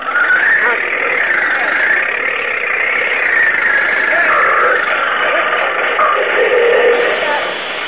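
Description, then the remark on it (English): A tractor engine roars and strains steadily for several seconds as it tries to drag out a big root it is caught on, its loud, gritty drone wavering slightly in pitch as it labors under load, with no pauses. “This tractor's got power enough to drag it out.”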